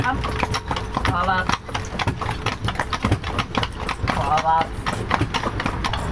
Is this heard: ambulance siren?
no